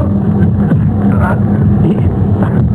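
A car engine runs steadily, a loud, continuous low rumble with a throbbing mechanical hum that holds constant throughout without revving.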